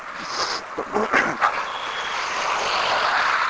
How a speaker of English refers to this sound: Well, all this blasted traffic goes by. I've never seen so many cars. Here we go again.